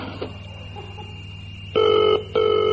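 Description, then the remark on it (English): A click and a faint steady line tone, then a telephone ringing back in two loud electronic bursts separated by a short pause, heard through the earpiece with no voices, as a presenter on a live show telephones a viewer. “Anyway, on with the show, and it's time to telephone a lucky viewer who's been chosen to come on next week's show.”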